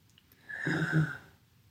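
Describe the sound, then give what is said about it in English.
A single soft deep breath drawn in through the nose during a guided breathing exercise, breathing into the sides of the belly, lasting under a second before fading back to quiet. No one speaks. “So breathing in.”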